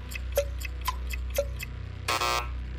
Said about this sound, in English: Okay, there's the buzzer.